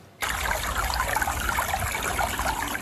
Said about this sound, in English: After our recent rain, streams have come to life around Lake Lagunitas in Marin County, and you can actually hear it.